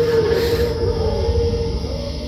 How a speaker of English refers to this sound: Did you hear that? It's my stomach. It sounded like a coyote.